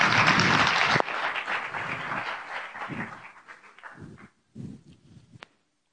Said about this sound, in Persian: خودتون رو تشویق کنیم.